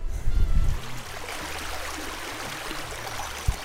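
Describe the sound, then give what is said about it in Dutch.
A stream of water flows steadily with a broad, continuous rushing and trickling texture, with a few low thumps near the start and a brief knock near the end. “Verdomme water gevonden.”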